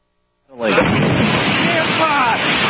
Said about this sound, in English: The giant meteor exploding in midair, knocking people to the ground, sending others fleeing.